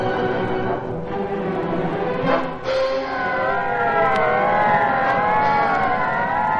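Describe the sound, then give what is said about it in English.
Loud car engines roar, then the sirens of half a dozen police squad cars start wailing at once, their rising and falling tones overlapping in a dense, continuous chorus with no voices. “Half a dozen squad cars were in action.”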